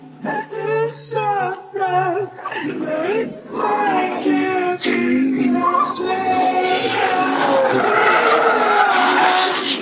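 Tires shriek in long, wavering squeals as race cars brake hard during laps, a Mustang braking to avoid rear-ending the car in front, the screeching rising and falling almost nonstop, loud, with engine roar underneath.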